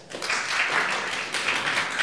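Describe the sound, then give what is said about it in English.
An audience claps in answer to being asked whether they have heard of the AbilityOne program, a dense crackling patter of many hands that starts softly and quickly swells to a sustained, even applause with no voices. “Have you all heard of the Ability One program? Clap.”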